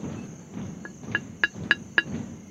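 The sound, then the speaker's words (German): A sparrow pecks at a stone-hard termite mound: five sharp, dry taps at a steady pace, each one louder than the last, over a low rumbling background and a faint, constant high hiss. “Hör auf, an unsere Festung zu hämmern!”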